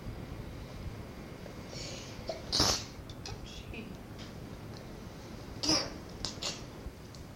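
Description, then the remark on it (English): A child sneezes twice, two short sharp bursts about three seconds apart, over a quiet hum with faint childlike babbling in the background. “Gesundheit.”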